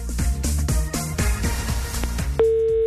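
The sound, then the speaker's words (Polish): A phone call to a randomly drawn person: a quick run of rhythmic, bouncy blips, then a steady electronic ringing tone starts near the end and holds as a clear, loud beep. No one speaks. “Jest sygnał, to już dobra wiadomość.”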